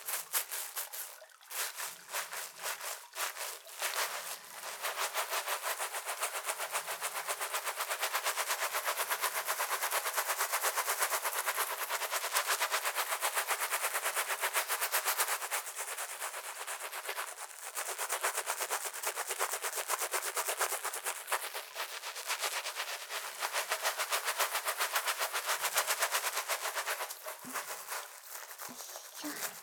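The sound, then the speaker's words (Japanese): Steady, loud scrubbing of soapy lather, a dense crackling rustle of rapid strokes running almost without pause, with a faint murmuring voice now and then underneath. “いい感じに泡立ってきましたので、このまま洗っていきまーす。”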